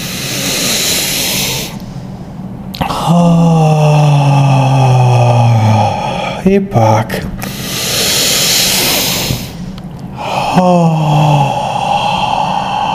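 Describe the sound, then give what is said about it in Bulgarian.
Deep breaths in a breathing exercise: loud breathy inhales followed by long, voiced exhalations with sound that fall in pitch like groaning sighs, repeated twice with a brief spoken cue between. “Сега ти предлагам да си поемеш дълбоко въздух и да го издишаш дълбоко.”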